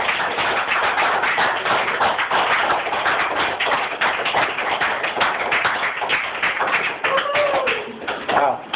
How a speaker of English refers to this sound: Right. Let's give another hand of applause.